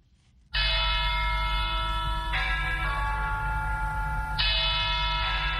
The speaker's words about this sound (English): Church bells ring at Our Lady of Victory's Cathedral in Yaoundé, inviting Catholics to a mass to be said by Metropolitan Archbishop Jean Mbarga.